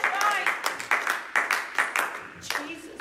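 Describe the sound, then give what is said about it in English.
An audience claps hands together in a brisk, steady rhythm of sharp, loud bursts, with voices faintly calling out beneath the clapping. “Oh, somebody clap your hands and love the Lord this morning.”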